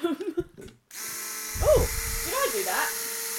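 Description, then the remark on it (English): After a brief spoken phrase, a steady, high-pitched electric buzz of a toy drone's small propellers starts up and holds evenly, with a person talking over the whirring. “Dad bought a drone and it's been foolish enough to let me have a go at driving it.”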